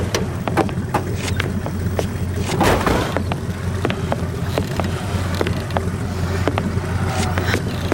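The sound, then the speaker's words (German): A car driven by a woman rolls slowly up, its low engine rumble steady throughout, with scattered sharp crunches and clicks like tires moving over gravel. No one speaks. “Da kommt noch ein Wagen. Langsam fahren, Miss.”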